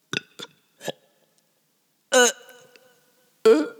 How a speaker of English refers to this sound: Sorry, I need to burp.